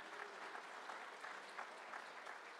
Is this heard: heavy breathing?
no